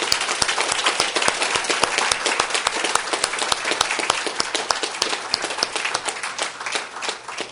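A crowd claps steadily for several seconds, dense overlapping hand claps filling the space at a fairly loud level, then thinning slightly toward the end.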